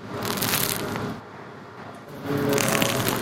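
Dense, crisp crackling of the crust of a baker's bread loaf being squeezed, in two bursts of about a second each separated by a quieter pause, steady and fairly loud with no voices.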